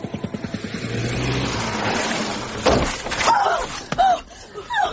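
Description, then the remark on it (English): A car engine revs and hums, then a sudden loud thud and crash of impact as the car hits a woman who ran out in front of it while crossing Piccadilly, followed by shocked cries and exclamations from people. “She ran right in front of the car. I saw it.”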